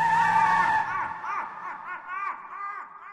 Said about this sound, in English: We opened the car door, heard my father rev the engine, and gunned the car down the driveway, all of us screaming all the while.